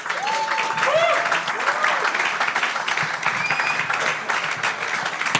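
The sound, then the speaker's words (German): Steady, dense applause from a crowd at an event, given for the event's hosts, fills the whole stretch, with a few short whoops and cheers rising above the clapping near the start. “Deswegen Applaus an euch und nicht an mich.”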